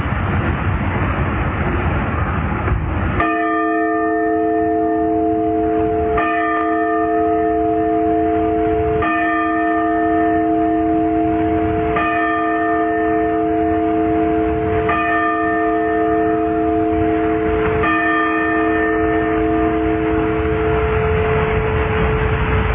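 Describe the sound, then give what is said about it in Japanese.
The bell of the Sapporo Clock Tower in Sapporo tolls six times for 6 a.m. at a slow, steady pace, each strike ringing out with a sustained hum that lingers beneath the next, over a faint background of traffic. “札幌時計台の鐘が午前6時をお知らせしました。”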